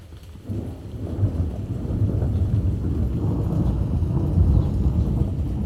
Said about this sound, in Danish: Summer thunder in a forest in England.